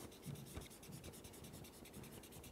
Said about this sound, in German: Ich male das jetzt mal hier so ein bisschen, ich habe jetzt gerade keinen goldenen Stift zur Hand, aber eigentlich müsste das ein goldener Rahmen sein, damit ihr wisst, eigentlich darum geht's.